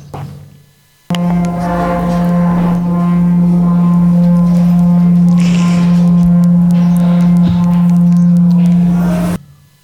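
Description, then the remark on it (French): A water singing bowl, a large metal bowl with handles on the sides, rubbed with wet hands sounds a loud, steady low hum with bright overtones, holding evenly for about eight seconds under a faint watery crackle before stopping abruptly. “Le son que vous venez d'entendre provient d'un bol chantant à eau.”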